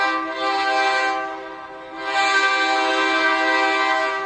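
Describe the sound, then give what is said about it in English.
A loud freight train horn sounds in two long, sustained blasts with a brief dip between them, rich and droning, with no voices present, as a freight train passes by Riverside Cemetery in Denver, where freight trains go by every 30 minutes. “And when the freight trains pass by every 30 minutes, it's loud enough to literally wake the dead.”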